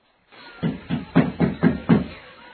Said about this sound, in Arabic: وفجأة سمع الخروف طرقا على الباب.